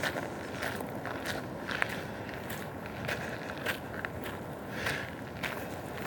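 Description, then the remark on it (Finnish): Steady footsteps of someone walking a dog outdoors in a suburb of Vantaa, Finland, at an even pace, each step a soft crunchy scuff over a constant low background hum, with no voices. “Steppailen koirani kanssa täällä Vantaan lähiössä”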